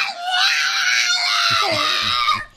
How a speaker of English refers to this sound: That's Megan, the screaming pug. Oh, it's one of the greatest noises on the internet.